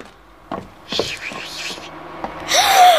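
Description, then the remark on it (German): A person makes sharp, breathy hissing sounds like a steam locomotive venting, first one longer hiss, then a louder burst at the end with a faint whistling tone, and no clear speech. “Aber hör auf zu zischen. Sei still. Es klingt ja so, als ob eine Lokomotive Dampf ablässt.”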